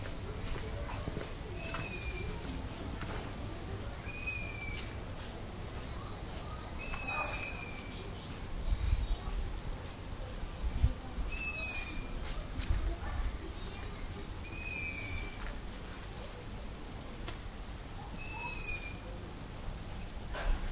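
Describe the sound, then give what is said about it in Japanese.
An owl calls roughly six times at intervals of a few seconds, each cry high and raspy, over a quiet night background with faint low rumble; about three owls have been spotted nearby, one perched on a TV antenna on a neighbouring house's roof. “これはですね、フクロウの声なんですよ。”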